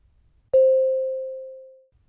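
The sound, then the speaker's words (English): A single mid-pitched electronic beep, the cue to start speaking in a recorded role-play, starts sharply and rings as a steady pure tone, gradually fading out over about a second and a half, with silence around it and no talking. “Start after the beep.”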